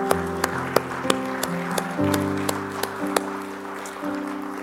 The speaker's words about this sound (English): And the church says, hallelujah. Can you give the Lord a hand clap today?